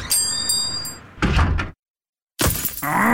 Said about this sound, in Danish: Et steneslag!